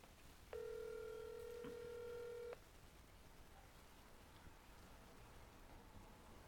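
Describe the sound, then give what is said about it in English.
A phone line rings once with a steady electronic ringback tone lasting about two seconds, then falls to faint line hiss with no answer and no voices, during an attempted call to a guest for a phone interview. “Let's see what happens on this phone interview, because I can't have people over at my house now.”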